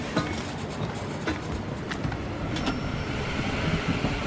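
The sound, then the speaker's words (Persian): A train rumbles steadily as it departs from platform 8 of a station, the 10:42 South Talbot train to St James: a dense mechanical roar broken by occasional sharp metallic clanks and squeaks, with no voices heard. “قطار ساعت 10:42 تالبوت جنوبی به مقصد سنت جیمز، حرکت از سکوی شماره 8.”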